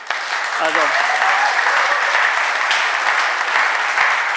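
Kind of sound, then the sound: crowd, audience clapping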